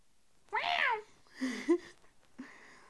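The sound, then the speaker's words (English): A cat meows, a loud drawn-out meow followed by a shorter two-part call and a faint final mew, with no one talking. “Meow! Meow! You laying on that cat?”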